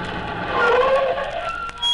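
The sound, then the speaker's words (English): A car slows and pulls over to the curb, stopping at Babe Waldo's place, its steady engine and road rumble carrying a brief rising and falling squeal as it brakes, with no voices. “I'll pull over to the curb and stop.”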